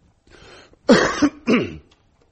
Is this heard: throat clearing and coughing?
yes